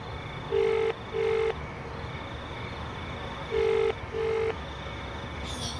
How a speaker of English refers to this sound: She picks up the receiver and begins to dial.